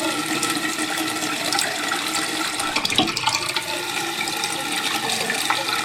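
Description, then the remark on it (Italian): Water gushes steadily from opened taps in a studio, a continuous rush and splash that stays fairly loud and even for the whole stretch, with no voices. “Terminata questa intervista all'insegna del vetro, possiamo passare a un elemento liquido e aprire i rubinetti dello studio.”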